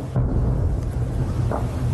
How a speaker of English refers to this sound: The sounds of fighting echoing again into the night. Now, the Sudan conflict has prompted many global calls for a ceasefire, but questions still remain about how two other countries can persuade combatants in Khartoum to lay down their arms.